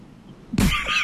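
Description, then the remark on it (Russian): A crucian carp sound: one sudden, loud, raspy croak after a moment of near silence. It has a throaty, cough-like texture and trails into a rougher, higher rasp. “Что за рыба была? Рыба карась.”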